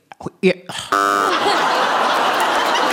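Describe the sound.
Brief chuckles and voice sounds, then a loud game show buzzer blares abruptly as a panellist buzzes in on a panel game show, during the round on the best use for noise-cancelling headphones. The buzzer gives a harsh, steady tone that fades into a sustained wash of noise.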